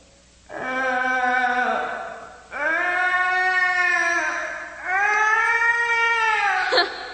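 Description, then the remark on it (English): A voice lets out three long, loud, wavering howling groans, each rising and sagging in pitch, imitating a sick calf's bawling, with brief breaths between them and no words. “Not even a sick cow. Sick calf.”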